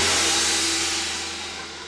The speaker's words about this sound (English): That's the gong Thompson used to marry people with. He was a doctor of divinity. This weekend, the gong marked the beginning of debate, which turned out to be much tamer than its setting.